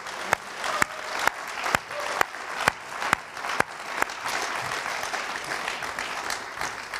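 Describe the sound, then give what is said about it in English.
A crowd applauding steadily during an AM service at New England Sites, a dense wash of clapping with a few sharper, evenly spaced claps standing out near the start before it settles into a continuous patter. “So can we applaud them as well?”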